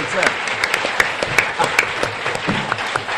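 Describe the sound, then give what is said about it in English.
A crowd applauds steadily for the sponsor Bite Mark, a dense wash of many hands clapping with sharp individual claps popping out, sustained at a fairly loud, even level for about three seconds. “So please give Bite Mark a big round of applause.”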